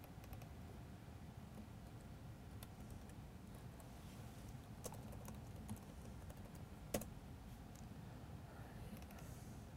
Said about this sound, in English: Me typing incorrectly.